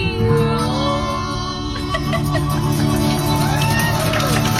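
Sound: crowd applause and cheering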